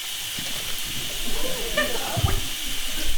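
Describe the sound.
A building's fire sprinklers, set off through the building's systems, spray water in a steady, broad hiss that holds constant throughout, with faint indistinct voices and low thumps mixed underneath.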